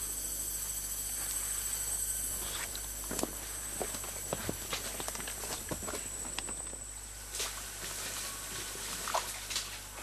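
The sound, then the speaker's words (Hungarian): Rainforest ambience: a steady, high-pitched insect drone over a low hum, with scattered crackles, rustles and soft pattering steps throughout. No one speaks. “Olyan ez a esőerdő zaj, mint a cirkuszban a dobpergés a kötéltáncosnak.”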